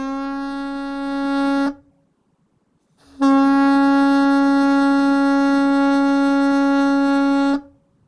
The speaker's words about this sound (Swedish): Nej, men hela historien med Gislövs läge är ju att där finns en sån här mistlur som användes när fiskebåtarna gick ut och det blev dimma, så använde man alltså mistlurens signal för att kunna navigera hem igen.